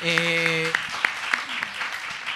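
An audience breaks into steady applause, a dense wash of clapping with a few sharper claps standing out. A brief held vocal tone sounds over it at the start.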